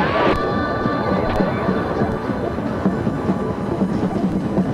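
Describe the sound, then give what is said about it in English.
A dense, steady festival crowd din fills the space, with sharp percussive hits from people playing drums scattered through it and a few sustained whistle-like tones rising above the noise. “people with drums are starting to get into the spirit. That's what you hear in the background.”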